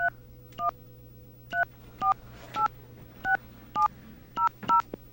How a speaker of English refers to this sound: so I'm going to demonstrate this on the airwaves here, if I can just get a damn dial tone. Okay, there we go. We're going to call their number.